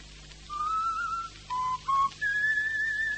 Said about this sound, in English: Oh, if I've told you once, I've told you 50 times, stop whistling that tune. Oh, it's a habit I should make an effort to break. When I'm concentrating, you know.